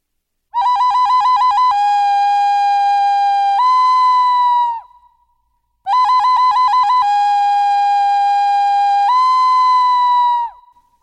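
A bird call sounds twice, identically: each time a rapid stuttering trill flows into long, steady whistled notes that step up in pitch before fading. Loud and clear, with no voices.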